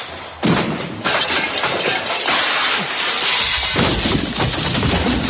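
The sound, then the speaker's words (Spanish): A hammer thrown in a hammer-throw attempt for Spain suddenly smashes into the Olympic cauldron with a loud crash, and harsh shattering, clattering noise follows without pause. A second burst of breaking sounds surges near the end, with no voices. “Acaba de cargarse el pebetero de un martillazo.”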